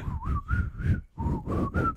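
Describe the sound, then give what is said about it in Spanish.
A person whistles in two breathy, wavering phrases separated by a brief pause, each gliding up and down in pitch, imitating the eerie whistle of El Silbón, a legendary ghost. “Ay, no, ¿tú sabes silbar? Sí. ¿Silba como el silbón?”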